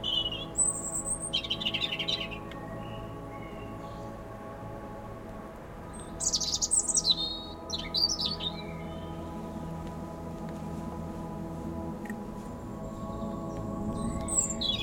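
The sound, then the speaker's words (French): A bird perched in a tree sings in short, bright bursts of chirps and trills, with pauses between phrases over a steady low rumble of wind. “Un arbre au-dessus de moi, sur lequel est posé un oiseau qui chante.”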